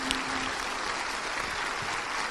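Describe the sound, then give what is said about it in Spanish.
Sustained applause from a crowd at a morning business event, a dense, steady wash of many hands clapping at an even loudness for a couple of seconds, with no voices standing out. “Tengo que felicitarlos, desees un fuerte aplauso y a todo el equipo y a todo el mundo por estar aquí esta mañana.”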